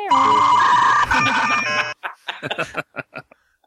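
A dial-up modem connecting: almost two seconds of loud, steady electronic tones and hiss, then a run of short, choppy chirping bursts before it cuts off.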